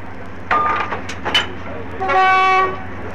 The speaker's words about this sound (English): You'll hear now are typical sounds of a departure, perhaps very distinctive noises of the activities that precede the departure of an important train of this kind.